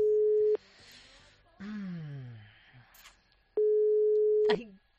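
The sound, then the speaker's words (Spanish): A loud, steady telephone tone at one mid pitch sounds twice, about a second each with a long gap between, as a call is placed live on COPE Zaragoza radio, while a voice speaks briefly in the pause. “Tenemos ya tono.”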